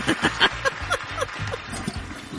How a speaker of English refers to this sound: Oh, it's the double flush. Didn't quite break it in half and get it all the way down the first time.